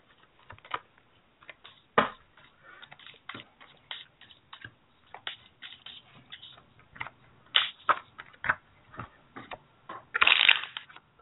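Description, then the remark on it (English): A deck of Lenormand oracle cards being shuffled, cards flying out: a steady run of crisp, irregular snaps and papery flicks, with a louder riffling burst near the end. No one speaks. “Alrighty, so I'm just using the Paracibono Lenormand again, and cards are just flying out all over the place while I'm shuffling.”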